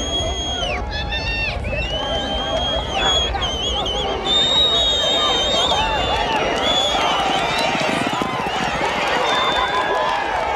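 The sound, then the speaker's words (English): Quarter horses ridden by jockeys race from the starting gate at a gallop in an international horse race held by Douglas and Agua Prieta, on a windy day with orange dust; their hoofbeats are a dense rumble beneath a loud, excited crowd shouting and cheering throughout, with shrill whistles and calls rising above the din. “Down in the starting gate, the sleek quarter horses are fidgeting, and the boy-sized jockeys are squatting in the stirrups. Then they're off.”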